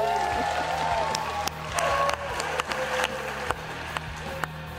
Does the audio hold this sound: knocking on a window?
no